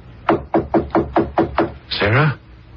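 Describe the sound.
Six firm, evenly spaced knocks on a bedroom door by a worried husband, in a quick steady rhythm, followed by a short voiced sound that falls in pitch.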